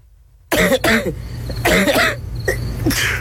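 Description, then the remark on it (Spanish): A person coughs several times in close succession, harsh, chesty bursts mixed with rough throat clearing, loud with a low background hum and no speech. “Tos, flema, fiebre, decaimiento.”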